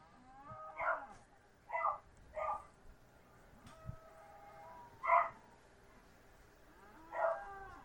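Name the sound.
dog barking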